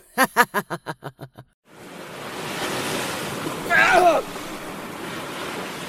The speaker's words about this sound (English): The mysterious figure reached its hand toward Keeler and washed him out of the building with a powerful wave of water.